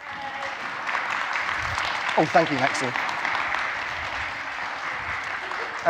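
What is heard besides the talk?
audience clapping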